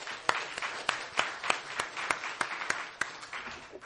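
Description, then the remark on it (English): An audience at a Commonwealth Club of California meeting applauds steadily for a few seconds after a presentation, a dense wash of clapping with a few sharper, louder claps popping out at a regular rhythm. No one speaks. “Let's put together our hands together one more time and give another applause for his gracious comments here today.”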